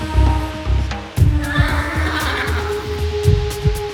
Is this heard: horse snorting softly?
yes